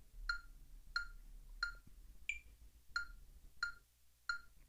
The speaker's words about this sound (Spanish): si tú te das cuenta desde que inicia el metrónomo que hace pip, tin, tin, tin, pip, hasta que vuelve a sonar el bip así alto, quiere decir que eso va a ser un tiempo para nosotros, ¿ok?